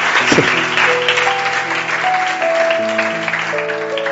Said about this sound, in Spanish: Dale ese aplauso al Señor, para que mováis un poco la sangre.